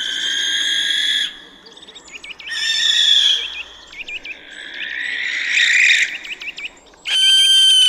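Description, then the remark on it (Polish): Loud owl calls from a little owl or barn owl, owls that live around buildings: high shrill cries repeating in bursts of about a second with short chattering notes between them, no voices, over a faint background hum. “To jest pójdźka i płomykówka.”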